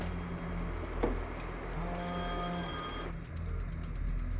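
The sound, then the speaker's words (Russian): A telephone rings once and goes unanswered, a bright electronic trill lasting about a second, over a steady low background hum with a soft click just before it; nobody speaks. “А почему она не берет трубку? Ты тоже не берешь? Ну, она же видит, кто звонит.”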